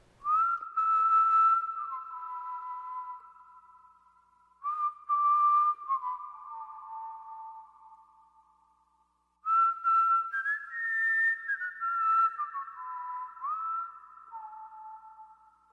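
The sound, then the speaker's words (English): A person whistles a slow, wavering melody in three long phrases, each note ringing out and lingering with a reverberant echo from the acoustics of the building they walked into. No one speaks. “you can hear it starts with some whistling. And you can hear the sound of that space just working this magic.”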